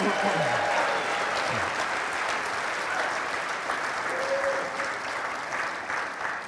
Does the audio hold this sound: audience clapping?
yes